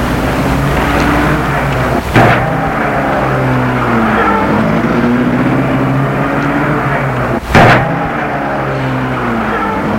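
A car engine drones steadily, loud and unbroken, as the car drives away from the Franblanc house, with two short bursts of rushing noise partway through; no voices.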